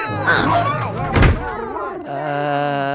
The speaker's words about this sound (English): You know what? Let me just close this door so I can explain myself in peace.